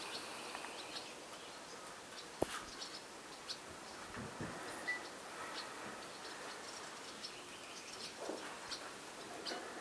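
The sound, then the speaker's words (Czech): Birds chirp faintly, with scattered short tweets repeating irregularly over a soft outdoor hiss, plus an occasional sharp click, and no one speaking. “Oni jsou přítomnosti ptáci.”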